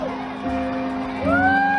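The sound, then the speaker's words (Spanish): A crowd applauds, cheers and shouts loudly, with drawn-out whoops that rise in pitch and keep going throughout the short moment, as if an audience is calling out in excitement. “Gracias por su cariño, sus aplausos y sus gritos.”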